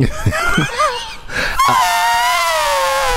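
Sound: voice imitating an elephant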